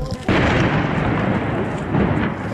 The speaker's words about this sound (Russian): На взрывы не реагируют.